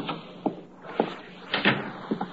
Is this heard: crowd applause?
no